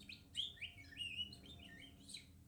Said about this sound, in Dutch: Het is zomer. De zon schijnt en er zijn bloemen. De vogels zingen.